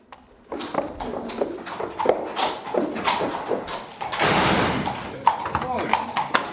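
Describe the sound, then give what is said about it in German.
Hooves clop unevenly on a hard stable floor as police officers lead their large, muscular horses out of the stalls at the North Rhine-Westphalia mounted police stable in Willich on the Lower Rhine, Germany, at half past nine in the morning, with a stall door sliding open midway and muffled voices talking. “Nach und nach holen Polizisten ihre Pferde aus den Boxen.”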